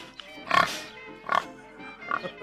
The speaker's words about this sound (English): Why is it so loud? Why is the screeching pig so loud? Is my only question.